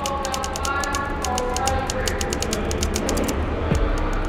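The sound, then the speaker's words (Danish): Rapid, steady clacking of keys on an old typewriter, struck in a quick rhythm as Paul Erdmann types in a comfortable prison cell in Basel, Switzerland, with a low murmur of prison guards and quiet chatter of other inmates underneath. “Paul Erdmanns fingre flyver over tasterne på en gammel skrivemaskine.”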